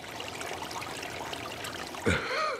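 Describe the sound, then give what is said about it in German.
A babbling brook trickles and gurgles steadily, a continuous bubbling wash of water, with a brief tonal chirp-like sound rising over it near the end. “Sie machten sich auf ihren Weg und kamen an den Bach.”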